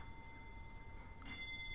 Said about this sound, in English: That's just the long case clock. I'll wait till it finishes chiming.